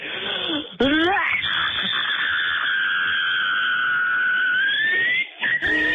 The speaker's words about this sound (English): But every time we play a Cabin Fever scream on the air, we give out some more prizes.